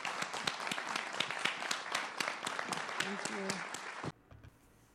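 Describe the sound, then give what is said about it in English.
An audience at the close of an event breaks into sustained applause, dense rapid clapping with a few voices mixed in, holding steady for about four seconds before cutting off abruptly into near silence. “give Alejandra one more round of applause”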